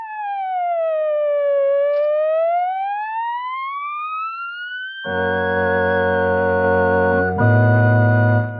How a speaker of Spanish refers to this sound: Haga sonar la sirena para que nos den el paso.